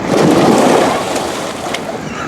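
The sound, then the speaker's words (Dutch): A loud, rushing splash of a man jumping from a boat into water, a broad churning wash that is strongest at first and then settles into steady sloshing, with no voices. “Waarom spring je nou in het water?”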